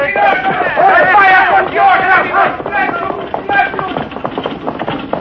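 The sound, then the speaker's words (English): Horse hooves clip-clop in a steady, uneven rhythm as a buckboard wagon is pulled along, heading home, with a crowd of voices murmuring and calling out over the first half. “Not too fast with that buckboard”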